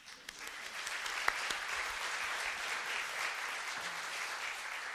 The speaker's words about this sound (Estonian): Anname Piretile siin aplausi.